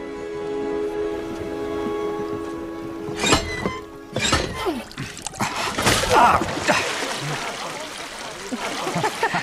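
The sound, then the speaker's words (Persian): Water splashes and trickles in irregular bursts as containers are filled with water, after a steady humming tone at the start, with a busy, uneven wash of sound throughout. “آب و آذوقه برداریم.”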